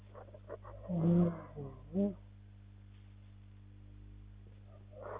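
A tiger roars twice: a longer, rumbling growl followed by a shorter burst, moderately close and loud, over a steady low hum with faint background noise.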